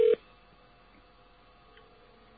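A single short, loud telephone touch-tone beep right at the start, then a faint, steady phone-line hiss with no talking.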